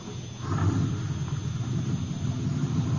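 A small truck's engine idles steadily at the side entrance of a warehouse as a man gets back in, with a continuous low rumble and a faint hiss, holding an even level throughout with no voices.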